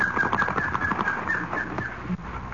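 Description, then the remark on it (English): A bird, Nicoma, takes flight into the woods with a quick burst of fluttering wingbeats, fairly loud, over a busy outdoor background with some chirpy calls. “Fly into the woods.”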